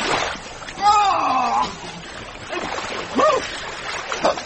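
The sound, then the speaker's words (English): Water splashes and sloshes steadily as someone moves into a pond with reeds and a muddy bottom to swim, with short voiced exclamations rising over the wet, noisy churning. “Goes down softly. Mr. Beebe, the water's wonderful, simply ripping.”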